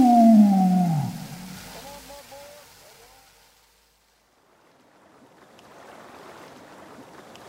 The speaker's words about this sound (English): This is the tide coming into the bay.